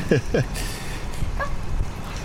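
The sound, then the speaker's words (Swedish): Two quick, sharp dog barks ring out close to the microphone in Kungälv, where a woman arrives with two dogs, one getting tangled in the microphone cord, followed by a softer yip, with a faint murmur of background noise. “Två hundar var det till och med. Ja, två hundar som kommer här i...”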